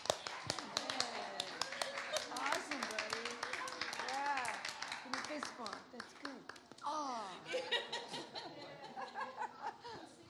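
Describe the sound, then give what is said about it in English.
Hands clap in a quick, steady rhythm throughout, sharp and fairly loud, while several voices chatter and laugh over the top. “Clap your hands like this.”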